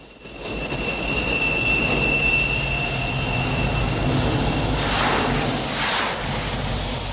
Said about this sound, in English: A train runs on the elevated railway.